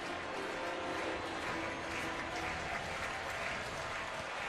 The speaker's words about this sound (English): Count is full. 3-2. Crowd making some noise here at Wrigley.